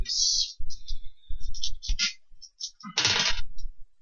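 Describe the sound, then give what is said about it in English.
Game Science dice, which have sharp, unrounded edges, rolled during a tabletop game, rattling and clattering across a hard surface, a run of sharp, rapid clicks followed by a louder burst of tumbling near the end before settling. “I don't like these dice.”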